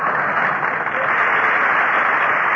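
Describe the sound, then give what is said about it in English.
Steady audience applause greeting Fred Allen as he is introduced in person, filling the whole stretch: a dense, even wash of many hands clapping at a constant loudness with no voices breaking through. “I wouldn't bother applauding, ladies and gentlemen.”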